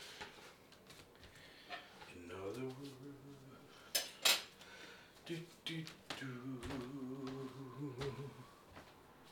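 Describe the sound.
Dishes and cutlery being washed, with scattered sharp clinks and clatters, a couple of louder knocks midway, while a voice hums or talks intermittently over the clatter.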